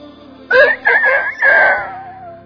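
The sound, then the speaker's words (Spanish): A rooster crows once, loud, its cock-a-doodle-doo breaking into three strained syllables before a long final note that trails off and fades. “Le había fallado a su amigo, le había fallado a su maestro, le había fallado a su Señor, y Jesús usó un gallo.”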